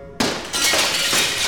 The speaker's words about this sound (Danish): at to maskerede mænd smadrer et vindue og kravler ind på postkontoret og gemmer sig.